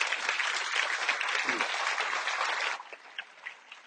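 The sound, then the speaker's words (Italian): An audience claps steadily to welcome a guest, a dense, sustained burst of applause that fades abruptly near the end, leaving a few scattered claps trailing off. “In mezzo a noi c'è Max Damioli. Un applauso.”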